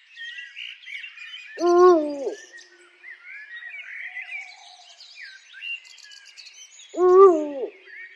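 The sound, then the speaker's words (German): Two deep, resonant eagle owl hoots, about five seconds apart, stand out clearly against a continuous chorus of smaller birds chirping and trilling in the background, in the wild rock formations of the Waldenabtal nature reserve. “Verborgen in den wilden Felsformationen leben der Uhu sowie der Raufuß und der Sperlingskauz.”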